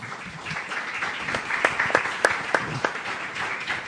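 An audience applauds Angélica Mayolo for a few seconds, a dense steady patter of many hands with a handful of sharper, louder individual claps standing out near the middle. No voices.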